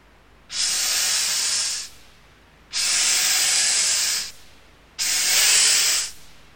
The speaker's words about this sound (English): It's a snake.